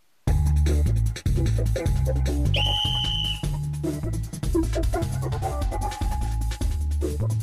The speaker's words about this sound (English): The little ball whirling inside puts the trill in the whistle blast. Quality whistles are made of solid brass because nothing beats its resonance.